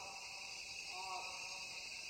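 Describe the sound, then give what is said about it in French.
Cicadas sing in a dense, unbroken high-pitched buzz that fills the rainforest air throughout, with a brief tonal call rising and falling faintly in the middle. “On entend un toucan à bec rouge, le chant des cigales, puis, dit Kraus, deux oiseaux très chantants, le troglodyte Ararda et l'ibigeau gris, accompagnés de perroquets, qui concluent l'enregistrement au lever du jour.”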